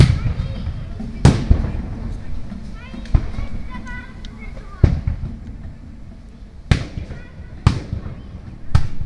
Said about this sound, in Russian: 7 лет спустя рабочий поселок, микрорайон почти в центре Сергиева Посада. Двор дома, известного в народе как Пентагон. Запись лета 2017-го. Двор Пентагона – это замкнутый пятиугольник, и поэтому эхо здесь особенно выразительно.